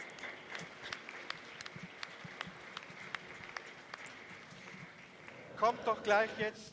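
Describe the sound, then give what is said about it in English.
An audience claps for those who prayed, several seconds of a steady wash of hands with sharper individual claps standing out. Near the end, a voice starts speaking over the fading applause. “Let us clap for the ones who prayed for this.”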